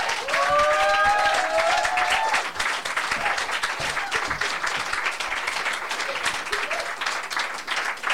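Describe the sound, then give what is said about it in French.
Sustained audience applause for the performer Boudilicious at a live show fills all eight seconds: a dense, steady patter of many hands clapping at even loudness, with a few brief whistles or cheers rising over it in the first couple of seconds. “On l'applaudit encore, s'il vous plaît.”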